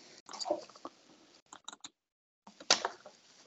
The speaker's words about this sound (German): So, Mike, die Maus klickt immer noch.